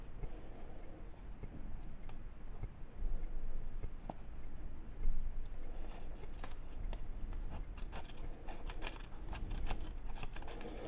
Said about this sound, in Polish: Tniemy nożyczkami wzdłuż linii.